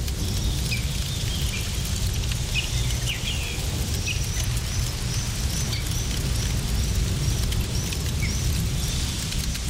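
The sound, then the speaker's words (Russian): Meat sizzles over a small campfire outdoors in nature with a steady crackling hiss that never lets up, while small birds chirp repeatedly in the background. “Слышите, птички? На костерке жарится мясо.”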